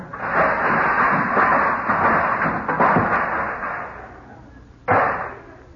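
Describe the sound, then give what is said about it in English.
A pile of nearly half a dozen snow shovels topples over with a loud, jumbled metallic clatter lasting several seconds, then a brief pause and one final sharp clank. “did you knock something over?”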